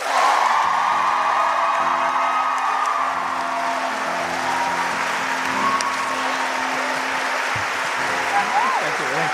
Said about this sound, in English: Those of us who think that Casper won this 30-second recap, please clap now.